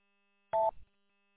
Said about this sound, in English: Yeah, got a phone coming in. Phone call coming in.